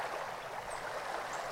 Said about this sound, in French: Le murmure apaisant de l'eau qui coule et la mélodie nocturne de la vie forestière.